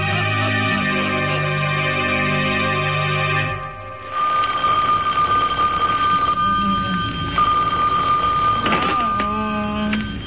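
A telephone bell rings loudly and continuously, a steady high jangling tone sustained for several seconds after a brief swell of held, chord-like tones.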